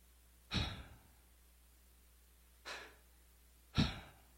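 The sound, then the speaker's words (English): A voice imitates the slow, heavy dying breaths of a terminally ill person whose breathing is slowed by strong pain medication: three separate sighing exhalations with long pauses between them, fairly loud, with no talking. “And each breath gets farther and farther and farther spaced apart until they breathe their last.”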